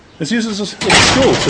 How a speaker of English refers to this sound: That was the sound of the gate closing hard behind us, boys and girls.